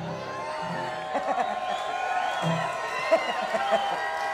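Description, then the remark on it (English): An audience claps and cheers in a steady, dense wash of noise, with scattered whoops and shouting voices rising over it now and then. “No, I didn't do that for applause.”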